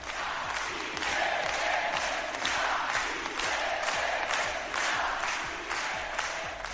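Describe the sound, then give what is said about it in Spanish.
A large crowd of Bildu supporters in the Basque Country chants in unison for independence with a steady, pulsing rhythm, roughly two beats per second, their massed voices loud and continuous with clapping mixed in. “No quisieron los de Bildu hablar de independencia durante la campaña electoral, pero ayer, cuando estábamos allí, el grito era claro, pedían la independencia.”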